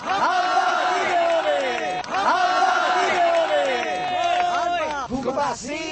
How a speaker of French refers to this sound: Musique cubaine, coups de sifflet, slogans, mais aussi allocutions de certaines personnalités comme l'acteur Tomáš Hanák ou l'ancien dissident et ministre de l'Intérieur Jan Rumel ou la sociologue Jiřina Šiklová